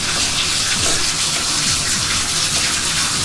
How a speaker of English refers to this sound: It's time for me to take a bath because my back is killing me. So we'll turn on the hot water. We'll turn on the cold water.